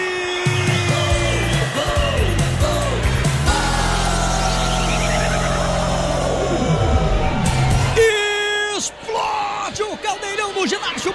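A crowd at a futsal match roars after a goal for Tropical, a loud, sustained wall of cheering and whoops with a man's long, rising and falling yell over it, easing slightly near the end.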